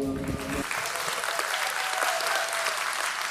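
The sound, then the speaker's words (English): A church audience at Pathway Church breaks into sustained applause welcoming a guest pastor to speak, a dense, steady wash of many hands clapping at an even loudness, with a brief low tonal sound right at the start before it fades into the clapping. “And give a warm Pathway welcome to my friend,”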